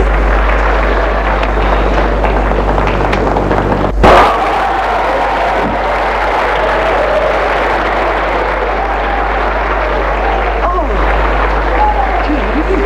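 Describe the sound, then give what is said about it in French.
A large crowd of dancers claps in a steady, dense wash of applause after Georges announces his engagement to Hilde de Gold, lasting throughout, with a constant low hum underneath and indistinct voices mixed in. “» Tous applaudissent.”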